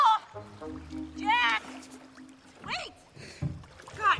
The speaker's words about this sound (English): Paddling, Sue drops an oar into the water.